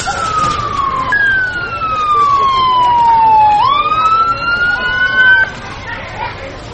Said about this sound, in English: An ambulance siren is heard far in the distance, increasing in intensity as it approaches the scene of the accident.